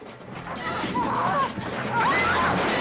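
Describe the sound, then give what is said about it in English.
A wooden banister smashes in a sudden loud crash as a girl is thrown off a staircase during a bar brawl, followed by another heavy impact amid the dense, chaotic noise of the fight, with faint shouts mixed in. “The drinkers watch unmoved as one girl throws the other off a staircase, smashing the banister.”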